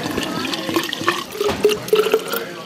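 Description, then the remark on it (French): Sparkling water from a bottle pours in a short gurgling stream into a water bottle at a lakeside refreshment stand by a boat landing, with bubbly glugs rising in pitch as the vessel fills. No one speaks. “Je te prends volontiers une bouteille d'eau pétillante. Alors, une eau gazeuse, tac.”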